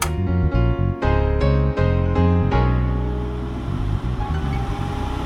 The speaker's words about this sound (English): There's an exhaust fan which turns itself off very weird way. Let's turn it on.